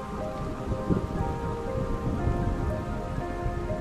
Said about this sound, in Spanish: Las colinas, todas chorreando agua, con las frondas tan cargadas de lluvia que todavía están plegadas, algunas ramas colgando quebradas por el viento.